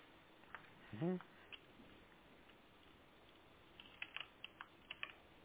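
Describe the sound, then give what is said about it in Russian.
Quiet keyboard typing of a password to log in to an account settings page: a short burst of sharp key clicks near the end, with a few scattered taps earlier and a brief vocal sound in the first seconds, over low background noise. “Да, по идее он должен опять запросить, зайти в эту страницу, уже введя этот пароль.”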